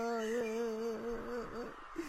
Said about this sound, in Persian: چی شد …؟ چرا که گریه میکنی؟